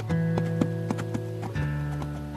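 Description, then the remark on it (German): Hooves of a horse being ridden clip-clop at a steady, even walking pace, the sharp knocks repeating several times over a sustained, droning musical tone. “Was für eine Glückseligkeit, diesen Moment auf dem Rücken deines Pferdes genießen zu können.”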